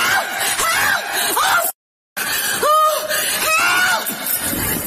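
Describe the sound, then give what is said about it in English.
A woman screams for help loudly and repeatedly, a series of shrill, wavering cries in quick succession, broken by a brief moment of silence partway through. “She's screaming, help!”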